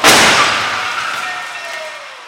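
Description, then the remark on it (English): A redesigned X1 car, dragged up to 40 miles per hour with 39 sensors recording, slams into a barrier in an IIHS crash test: one sudden, loud crunching impact, then ringing metal and scattering debris that slowly fade over about two seconds. “Destroying this car in the hopes that maybe its next incarnation can be even safer.”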